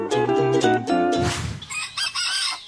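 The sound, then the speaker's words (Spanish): A rooster on a farm crows loudly with a long, strained cock-a-doodle-doo, its harmonic call rising and breaking, followed by scattered clucking and chatter from other fowl with no one speaking. “¿Qué hacemos en una granja, Facu?”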